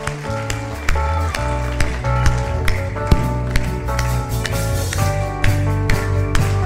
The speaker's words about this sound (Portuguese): Vamos declarar com amor, com fé? Vamos alegrar o coração? Então aplauda Jesus